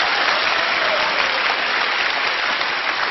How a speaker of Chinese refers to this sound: 此处应该有掌声，我觉得，谢谢。